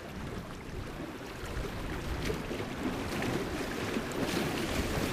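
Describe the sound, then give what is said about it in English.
Water laps steadily against the shore of Folsom Reservoir near Sacramento, a continuous low, splashy wash with soft irregular ripples and a faint breezy hiss, moderate in level with no voices. “After 4 years of drought, this sound of water lapping on the shores of Folsom Reservoir makes”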